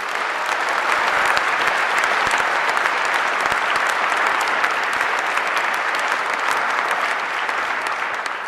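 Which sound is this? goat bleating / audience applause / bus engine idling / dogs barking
audience applause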